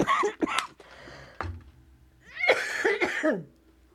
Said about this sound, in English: I'm going to try to quell the coughing.